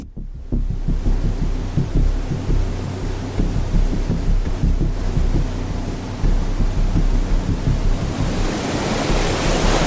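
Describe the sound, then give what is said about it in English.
A boat's motor is fired up with the drain plug out, to test how much wake water enters the cockpit; after a brief pause it settles into a loud, steady low throbbing rumble, with a hissing rush of water and wind building toward the end. No one speaks. “Got the plug? Fire it up, Skipper, and let's go.”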